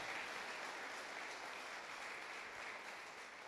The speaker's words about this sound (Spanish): ¿Cuántos sellan con un aplauso al Señor? Le dicen: amén, Señor, yo recibo.